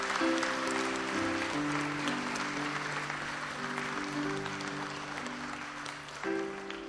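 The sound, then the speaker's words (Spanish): An audience at a Spanish-language church service applauds for Jesus steadily for several seconds, a dense wash of clapping over sustained organ or keyboard chords that shift beneath it, with faint voices mixed in. “¿Por qué no le das un aplauso a Jesús, hermano?”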